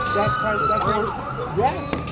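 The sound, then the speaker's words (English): An emergency vehicle siren wails through a busy city street in San Francisco, holding a steady tone before sweeping upward, with indistinct voices and street noise mixed in underneath. “He catches people as they wander through a haze of loud music and sirens and the crush of life outside.”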